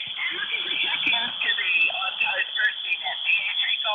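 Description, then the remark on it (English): Noisy shortwave amateur radio reception in the morning under poor conditions, a thin, band-limited hiss with faint, garbled voices of weakening stations drifting in and out underneath, steady and continuous throughout. “Yeah, conditions are not very good. It is noisy, and stations are getting weaker.”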